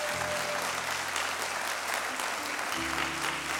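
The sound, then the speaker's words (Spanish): An audience claps for the Lamb of God steadily for a few seconds, a dense, continuous patter of many hands, with a low sustained organ or keyboard tone humming underneath. “¿Alguien le puede dar un aplauso al Cordero inmolado de Dios?”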